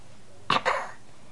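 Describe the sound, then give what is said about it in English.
A dog hiccups: two quick, sharp breathy bursts in rapid succession, then quiet, with no talking around them. “What can we do to get rid of your hiccups?”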